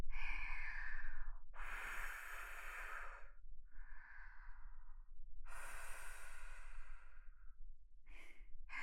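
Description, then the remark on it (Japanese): Gentle breaths are blown onto a penis to cool it, in a slow series of airy, hissing puffs, some long and full, others brief and soft, with quiet pauses between and no talking. “おちんぽ濡れてると余計吐息感じちゃうわよね。”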